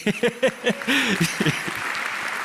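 Audience applause for a member of the audience breaks out and builds into steady, dense clapping. Voices rise briefly over the start of it, then a continuous wash of claps carries on to the end.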